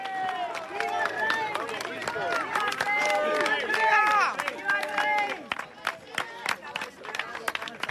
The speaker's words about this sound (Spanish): Medio centenar de personas con banderas españolas han recibido al emérito al grito de ¡Viva el rey! Escuchemos.